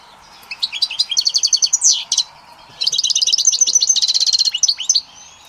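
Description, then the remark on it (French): A caged songbird sings two bright, rapid warbling phrases separated by a short pause, sweet and melodious, with no voices or other sounds around it. “On voit que son chant est doux et mélodieux.”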